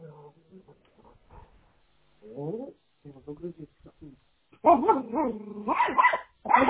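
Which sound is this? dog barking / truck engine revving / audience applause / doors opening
dog barking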